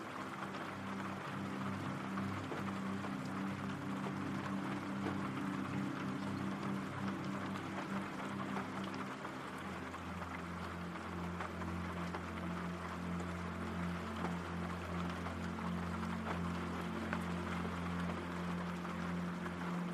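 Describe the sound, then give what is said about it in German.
Steady, even rain hisses without pause for the whole stretch, layered over a low, constant humming drone that deepens slightly about halfway through. No voices are heard. “Dein Atem geht ruhig und gleichmäßig, während du den beruhigenden Regengeräuschen lauschst.”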